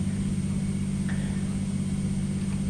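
Two fire engines idle in the street outside with big blue lights flashing, their heavy engines giving a steady, continuous low rumble that holds an even level throughout, with no voices or other distinct sounds.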